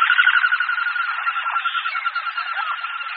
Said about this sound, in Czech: Možná, že někteří z vás poznali, že zvuky z této nahrávky nejsou žádným ptačím hlasem. Opravdu nejsou. Je to mechanicky vznikající zvuk, který vyluzují letky letícího hohola severního, jedné z našich vzácnějších kachen.